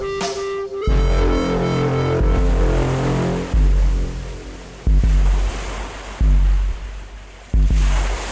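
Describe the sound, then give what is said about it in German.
Sea waves of the Caspian Sea wash onto a shore in steady, loud surges that swell roughly every one to two seconds, with a low tonal drone sounding beneath the rushing surf. “Eine riesige Wasserfläche breitete sich vor ihnen aus.”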